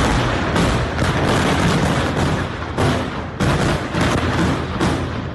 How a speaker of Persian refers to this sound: صدای این انفجار در تمام بیروت شنیده شده و تا نوقت‌های شب شعله های آتش و دود غلیظ از محل حمله بلند بود.